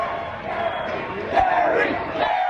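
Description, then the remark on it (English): A large crowd of hundreds of Kerry-Edwards supporters and fewer Bush-Cheney supporters on the Arizona State University campus in Arizona shouts and yells continuously as atmosphere for a cable news show, a dense wash of many voices with a few louder cries rising out of the noise, sustained at a steady, fairly loud level. “Hundreds of Kerry Edwards supporters, a lower number in the hundreds of Bush-Cheney supporters, obligingly served as atmosphere for the cable news show that had set up shop on the Arizona State campus.”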